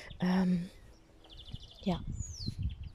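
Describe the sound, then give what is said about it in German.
Garden birds chirp and trill: a quick run of high twittering notes, then a clear falling whistle, over low background rumble, with a brief low voice-like sound at the start. “Vielleicht hörst du die Vögel in meinem Garten.”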